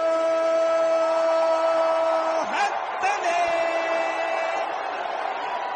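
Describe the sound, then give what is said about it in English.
An arena crowd in New York cheers loudly and steadily as Carmelo, a 6'8 forward from Syracuse wearing number 7, is introduced, with an announcer's drawn-out, sustained call ringing over the constant roar before the voice breaks off into more cheering. “And you know that, like, the fans are going to cheer and the welcome is going to be warm”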